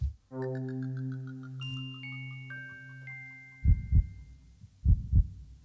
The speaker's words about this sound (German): Was ist das denn? Herzschlag.